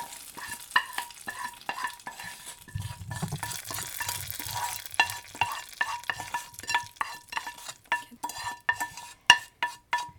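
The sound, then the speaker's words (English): Food sizzles in a hot pan, a steady crackling hiss broken by repeated scrapes and metallic clinks of a utensil stirring. No one speaks. “Oh, that's sizzling.”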